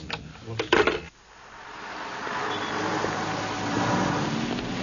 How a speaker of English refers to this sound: South London, where grime grows faster than crime and truck gears grind all through the night.